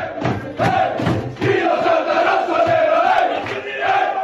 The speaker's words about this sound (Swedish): Det var alltså Inter som sjöng och jublade, och det kan ju kännas nästan lite överdrivet för en seger mot Atalanta.